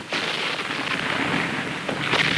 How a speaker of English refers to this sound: Shells hit closer, spraying debris 50 feet into the air.